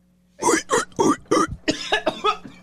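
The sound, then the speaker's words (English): Four sharp coughs in quick succession, each a harsh burst, followed by someone talking briefly. “I had a cough in my...”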